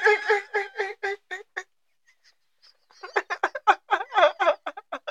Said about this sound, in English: That's a bird. It's a bird.